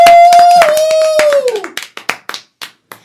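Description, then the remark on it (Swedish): Audience applause at a comedy show at Underbara bar welcoming headliner comedian Simon Gärdenfors, a dense burst of clapping that thins out to a few scattered claps, over a steady sustained tone that slides downward in pitch before fading. “Ge en varm applåd för Simon Gärdenfors!”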